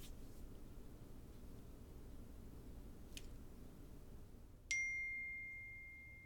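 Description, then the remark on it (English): A single bright email notification chime rings out near the end and slowly fades, heard over a steady low background rumble with a couple of faint clicks earlier. “I just got an email from that firm I was just talking about.”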